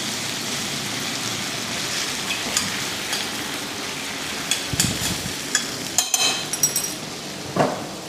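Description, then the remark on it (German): Steady sizzling of Nockerl dumplings frying in a pan, a dense hiss throughout, with occasional sharp clinks and scrapes of a utensil against the pan near the end. “So dann, jetzt werden die Nockerl in die Pfanne einigen.”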